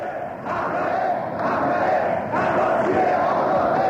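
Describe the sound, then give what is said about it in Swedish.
A large crowd at an election meeting in Iran, with several known opposition figures present, cheers and shouts continuously, a dense roar of many voices that swells in a few surges and stays loud throughout, with no single speaker standing out. “Och det finns en uppenbar glädje i att få jubla fritt över dem.”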